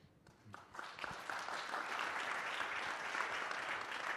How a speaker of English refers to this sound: And it's all because of the support of the people we have in this room today. So give yourself an applause.